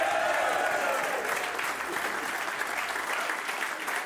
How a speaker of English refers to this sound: The Tyrone crowd are always annoyingly loud. They are.